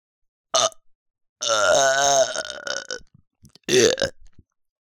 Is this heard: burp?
yes